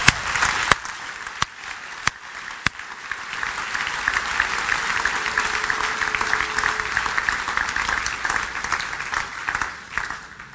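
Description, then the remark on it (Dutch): An audience breaks into sustained applause honoring Jesus, a dense, even wash of many hands clapping for about ten seconds, with a few sharp louder claps standing out near the start. “En zullen we Jezus, onze bevrijder, eren met een groot applaus.”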